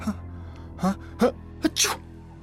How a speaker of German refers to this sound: Sie musste niesen.